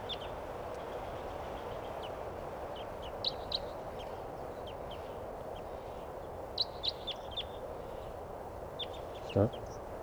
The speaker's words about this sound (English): Stop. Here's a bird. Nothing. There it goes. Stop. There's a bird.